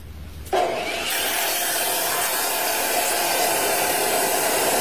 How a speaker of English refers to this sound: So Scott's sawing his gun in half right now.